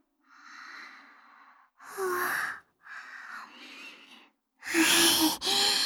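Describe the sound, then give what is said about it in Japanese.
A drawn-out, breathy yawn with soft voiced moans, broken into several airy stretches that swell louder toward the end, with no talking. “あくび出てきちゃった。”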